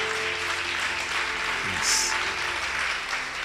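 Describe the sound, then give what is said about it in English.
A crowd claps steadily, a dense wash of many hands patting at once with no clear rhythm, holding an even loudness throughout with a brief swell near the middle. “Clap again.”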